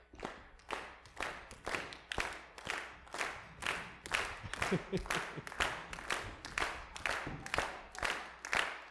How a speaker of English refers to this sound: So if you consider yourself a child, come on up, and I would like you to honor them as precious in our sight by doing this clap as they come.